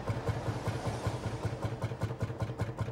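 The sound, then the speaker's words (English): A worn van's engine, with a lot of miles on it, idles roughly, its low rhythmic chugging pulsing steadily with an uneven, labored knock. The sound is moderately loud, with no voices. “you can take the van cab to like a mechanic. You know, seen a lot of miles. Might want to get an oil change.”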